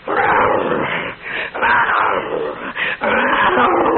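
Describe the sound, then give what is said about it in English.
A large dog growls and snarls loudly, a rough, continuous rumble broken by a few brief pauses before surging back in. “His mama was a Rottweiler, and his daddy was from a bad neighborhood.”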